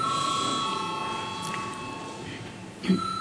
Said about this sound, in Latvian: Lūdzu zvanu.